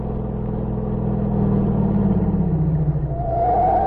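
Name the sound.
car driving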